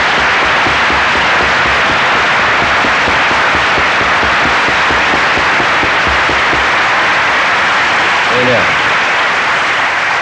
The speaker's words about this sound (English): And I just really feel that today. And I feel, therefore, a clap offering is sometimes very much in order for just what God's doing.